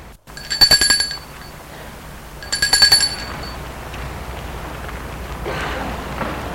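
A doorbell at a house's front entrance, rung by two boys, rings twice in short, rapidly pulsing bursts with a bright metallic tone, followed by a steady low background hiss.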